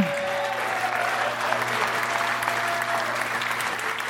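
A crowd applauds steadily for a comedian being introduced, a dense wash of clapping hands that stays full and even for several seconds, with a low hum running underneath.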